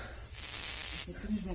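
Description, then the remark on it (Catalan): A typical cricket gives one sustained, high-pitched trill lasting under a second, fairly loud, with only a faint background before and after. “Sí, sí, és un grill típic.”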